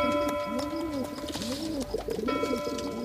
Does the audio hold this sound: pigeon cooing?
yes